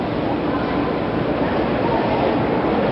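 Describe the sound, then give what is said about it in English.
A train rumbles steadily as it comes to a stop at the end of its last ride, a dense, continuous mechanical roar with a faint murmur of voices, as Senator Kennedy's closest aides step down from a car. “The last train ride is over. The train has stopped.”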